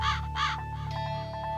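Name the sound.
raven cawing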